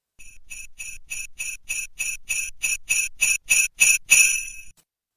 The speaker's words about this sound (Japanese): ペン本体側面にある平面上に細長い楕円の溝が切り込んであるスイッチがシーソー式の音量スイッチです。再生していない時にペン先側を押しますと音量調節音。